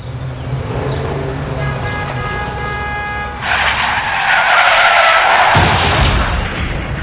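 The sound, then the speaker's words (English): Car tires screech with a sustained, high-pitched squeal, then a loud crunching crash hits about halfway through and rumbles on with scattered debris noise. No one speaks. “They take the dents out of accidents.”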